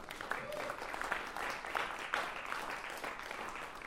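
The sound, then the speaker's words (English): A crowd gives a second round of applause for the speaker's parents, a dense wash of many hands clapping at an even, moderate loudness, with no voices standing out above it. “So you guys have to give them a second round of applause.”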